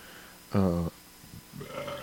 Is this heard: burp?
yes